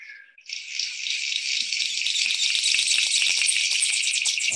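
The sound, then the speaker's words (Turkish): A King of Saxony bird-of-paradise, the bird with antennae, gives a loud, continuous crackling buzz like electrical static, sustained for several seconds after a brief higher note, with no voices. “Önce evet Saksonya kralını dinleteceğim.”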